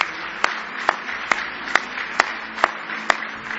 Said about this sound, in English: Somebody say praise the Lord. Oh, give Him a big hand clap of praise.